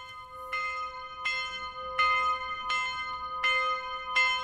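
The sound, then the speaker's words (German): A single cast school bell at the Gutenberg-Gymnasium in Erfurt, cast in front of the school in memory of 16 shooting victims, tolls slowly and steadily to open a memorial, six strikes about three-quarters of a second apart, each ringing with a long metallic hum that overlaps the next. No one speaks. “Es ist nicht irgendeine Glocke, die das Gedenken am Erfurter Gutenberg-Gymnasium einläutet.”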